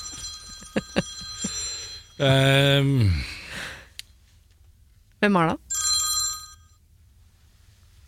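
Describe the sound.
A telephone rings with a short electronic ringtone burst, clear, between stretches of a person speaking and a drawn-out vocal sound; the call is from a son-in-law.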